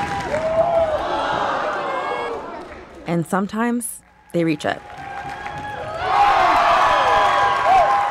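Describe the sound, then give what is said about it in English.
A gym audience claps in rhythm amid crowd noise and cheering, loud, fading briefly while a voice speaks, then swelling again at the end. They clap for an athlete who stomps a foot in rhythm while gearing up for an Alaskan high kick. “Like when an athlete is gearing up for the Alaskan high kick at a height they haven't reached before, they'll stomp their foot in a rhythm to get the audience to clap for them.”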